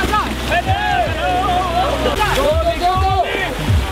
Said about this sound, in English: an excuse to play the clip of Ollie trying to ride a water bike